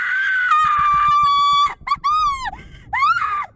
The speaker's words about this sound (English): A moment passed, and then she unleashed an ear-shattering scream that never seemed to end.